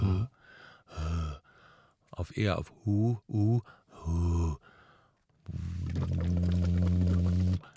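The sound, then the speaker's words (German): Several short voiced breaths and hums, then a long steady hummed tone blown through a hose held in the lips into water, with a rough bubbling texture underneath. Fairly loud, with no talking. “So pustest du in den Schlauch und je nachdem, wie tief der Schlauch oder wie hoch du den Schlauch aus dem Wasser ziehst, also wenn der so gerade so eben im Wasser ist, dann ist der Druck nicht ganz so stark.”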